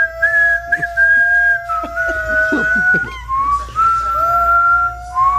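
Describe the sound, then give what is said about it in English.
A person whistles a wavering, off-key tune, the pitch sliding and wobbling for several seconds, with faint background sounds and breaths between notes. “It sounds like a dying dog and me whistling as it's dying.”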